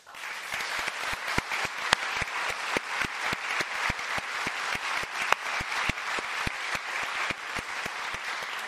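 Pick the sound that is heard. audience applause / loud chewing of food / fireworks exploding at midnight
audience applause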